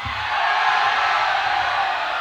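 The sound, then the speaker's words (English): A loud, steady roar of a large concert crowd cheering and shouting, a dense wash of voices that holds at full level for a couple of seconds without a break. “Well, then make some fucking noise.”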